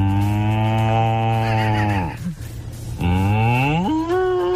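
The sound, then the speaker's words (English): A person imitates a cow, giving two long, loud, drawn-out moos with a brief breathy pause between them; the second moo rises in pitch toward the end. “That is someone who's spent a lot of time with cattle.”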